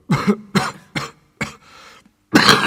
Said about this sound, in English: Suddenly the miner began to cough violently, covering his mouth with a dirty handkerchief.